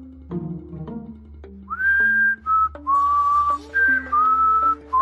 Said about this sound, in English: Ow. Ow. I was just a little on the loud side. Whistling was okay, just volume high.